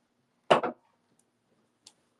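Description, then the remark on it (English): A brief double rustle and thump of someone shifting on a bed, fairly loud, followed by a faint tick, with quiet silence around it and no talking. “You can hear the little, like, the bed shuffle.”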